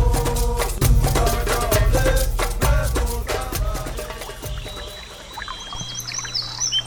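Full, bass-heavy music plays for the first few seconds, then fades as a few light, high bird chirps flutter in near the end, fairly soft against a quiet background, in a radio sketch titled The Hunter and the Bird.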